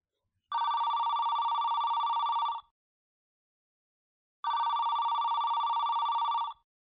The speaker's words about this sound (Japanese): 机の上に置いた携帯電話が鳴っている。